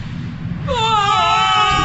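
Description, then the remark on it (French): Video game characters in a cutscene, meant to be sneaking into a base, let out a loud, sustained, high-pitched scream that cuts in suddenly over a low background rumble and holds steady for over a second, with no speech. “Bêtement, ils se mettent à hurler.”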